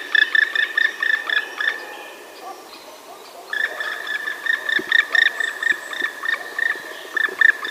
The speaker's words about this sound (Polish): Inaczej brzmi dzięcioł czarny odzywający się w locie.